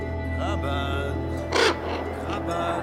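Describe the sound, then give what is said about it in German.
Ravens cawing in harsh, rasping calls, with one louder caw standing out midway among fainter croaks, all over a low, steady background hum. “11 Raben saßen auf einer Stange und sahen mich an.”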